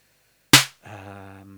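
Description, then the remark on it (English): A single sharp snare hit from a modified drum machine, with the snappy control brought up and its snappy noise filtering set lower: a bright burst of snappy noise that cuts off quickly, followed after a short gap by a steady, voice-like tone. “Now the snappy the snappy filtering is lower, so you'll hear a”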